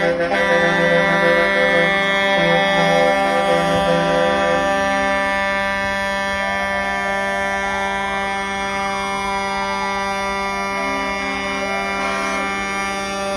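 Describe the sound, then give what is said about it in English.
Several air horns on trucks of a protest convoy blare at once in a loud, unbroken chorus of overlapping tones, some wavering up and down in pitch, sustained without pause and with no talking. “Air horns off trucks began ringing out at all hours of the day, and the convoy was digging in.”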